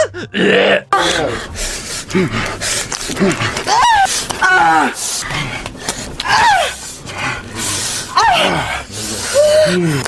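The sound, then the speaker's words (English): A woman gasps and cries out again and again during sex in an adult video, loud breathy bursts with sharply falling pitch following one another closely, rising toward screams, over a steady background. “More of a scream now than a gasp.”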